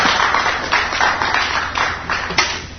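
An audience claps together in a steady, dense burst of applause that stays loud and fairly even for about three seconds, with scattered sharper claps standing out and no voices.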